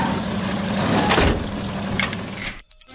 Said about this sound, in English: Hey, my car's making a funny noise